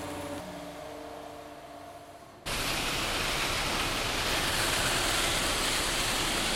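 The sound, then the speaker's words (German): A steady, loud wash of dense rushing and rattling noise as sand and gravel clatter with water through a gravel washing plant in the Main valley, starting abruptly after a quieter low mechanical hum with tonal drones. “Dieses Geräusch entsteht, wenn Sand und Kies zusammen mit dem Wasser durch die Anlage klappern.”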